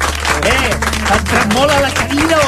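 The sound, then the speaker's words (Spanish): Steady applause for a female performer, dense clapping that holds at an even loudness throughout, mixed with voices calling out and cheering over it. “Sí, sí, ha estat un gust sentir-la, un aplaudiment per ella, perquè ha estat espectacular.”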